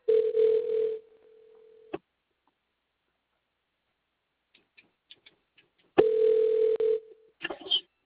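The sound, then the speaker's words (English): A steady telephone dial tone sounds twice, broken by a string of quick soft clicks and keypresses, then a short burst of dialing tones at the end. No one speaks. “Let me call him because he's going to ask me who it is for.”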